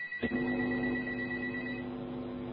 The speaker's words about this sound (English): Hello? Your phone ringing.